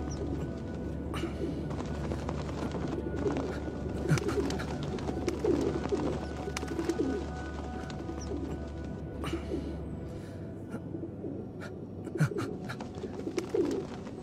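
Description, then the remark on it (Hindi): Pigeons coo steadily in soft, rolling murmurs over a constant low hum, with a few sharp clicks and flutters scattered throughout, moderately loud. “क्या तुम नहीं चाहते कि हम इस परिंदे की मदद करें?”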